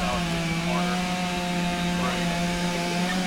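A chainsaw runs nonstop at a steady, loud pitch, its buzzing drone showing only slight revving wobbles and no one talking. Firefighting crews are using chainsaws in a training drill, practicing for fallen trees blocking their paths.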